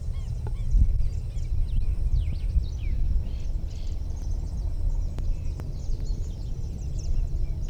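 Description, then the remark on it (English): Thin, scratchy bird alarm rattles and chatters from an unbanded bird near its nest in a yandubai tree about 8 feet off the ground, repeating irregularly over a steady low outdoor rumble, with a couple of sharp clicks; no one speaks. “Alarm rattle of some sort, five.”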